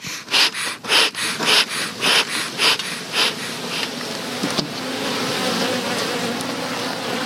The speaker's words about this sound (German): Christoph Sandrock öffnet behutsam einen Bienenstock, in der Hand eine Art Spritzkanne, die raucht.